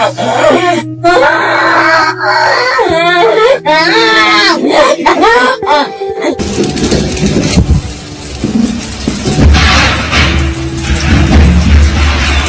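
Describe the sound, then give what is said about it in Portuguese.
A child whimpers and wails in wavering, drawn-out cries for several seconds, frightened by New Year's Eve fireworks. Then a dense, rumbling barrage of booms and crackling takes over as fireworks go off continuously. “Você que está pensando em soltar fogos de artifício nesse Réveillon, veja esse vídeo primeiro.”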